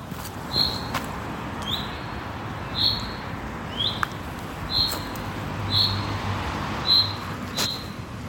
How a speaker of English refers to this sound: Please help identify this bird call, heard frequently during April and May in the Comley Bank area of Edinburgh